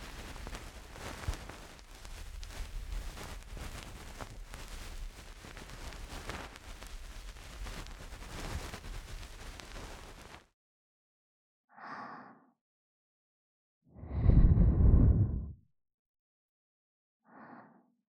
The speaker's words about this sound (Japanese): ご主人様に、さらなる癒しを。波間に揺られ、眠るような心地を楽しんでいただくために、だからお耳をもっともっときれいきれいするのです。